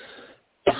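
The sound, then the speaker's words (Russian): A single sharp cough bursts out loudly after a brief silence, preceded by a faint murmur of low background noise. “Кашля, надо душить.”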